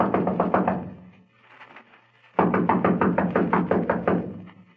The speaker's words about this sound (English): Come on, let's knock.